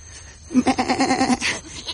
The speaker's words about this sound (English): Here, goat. Come to Robinson.